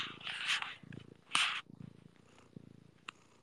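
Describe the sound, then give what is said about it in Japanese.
A person imitates a cat's purr with a rumbling, rhythmic low vibration, broken up by a few breathy hissing exhalations, steady and fairly quiet throughout. “あなたの猫エンジンでもうここにいる半分は寝ましたよ。”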